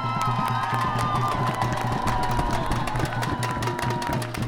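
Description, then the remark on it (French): A crowd at a feminist strike demonstration in Dijon on 8 March claps steadily and loudly for several seconds for speakers of the AGGF (Assemblée Générale de la Grève Féministe), dense overlapping hand claps mixed with cheering voices and a low sustained hum underneath. “On peut les applaudir bien fort parce qu'elles ont un peu le trac.”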